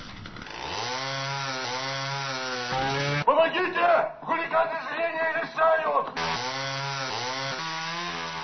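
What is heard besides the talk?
sawing wood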